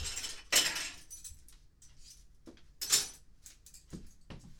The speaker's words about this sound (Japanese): めちゃくちゃうるさくなるやつでかき回します。うるさくなるやつっていうか、かき泡立て器で。そう、買ったんですよ。